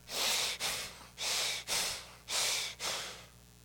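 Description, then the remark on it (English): Heavy, forceful breathing through the nose, three rapid in-and-out cycles in a steady rhythm, loud with no talking. It sounds like someone huffing in anger. “It literally carries with it the idea of to breathe hard at.”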